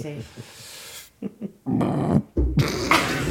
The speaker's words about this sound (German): man darf rülpsen hier, man darf rülpsen, das ist okay